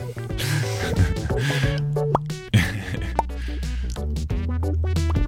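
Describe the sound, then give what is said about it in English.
Soft bubble pops from a bubble synth bloop in a steady stream over layered, sustained synth tones and a low droning bass, with no talking. “I bought a bubble pop, bubble synth. Nice. Yeah, the soft pop. It sounds like bubbles.”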